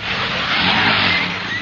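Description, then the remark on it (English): A car engine revs loudly in one short, sustained burst, with a rough roaring rumble and no voices over it. “Which one do you think you should use? The car?”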